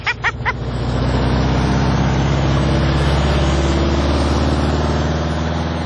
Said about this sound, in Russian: А кто там первый-то едет? О, 4-5 машин. И вот дождались.